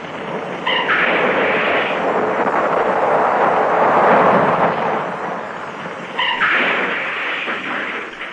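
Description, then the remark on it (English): A car with its brake off rolls off a cliff and crashes down a 1,000-foot drop to the sea: a loud, sustained roar of grinding, tumbling noise runs for several seconds, with a second surge near the end, and no voices. “The car's moving. Harry, hey. Don't try to stop it. You can't. You can't, Harry. It's a 1,000-foot drop to the sea.”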